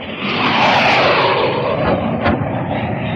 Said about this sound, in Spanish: A través de la ventana se escucha el zumbar de otro avión de caza en aterrizaje.